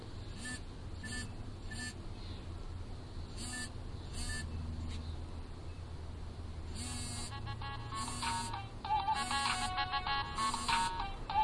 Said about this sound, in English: So now you can go through your ringing tones and listen to them. And just down arrow to the next one. And you hear, I've got vibrate set on mine.